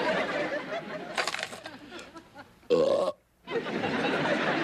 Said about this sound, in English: Would you be so kind as to belch for us?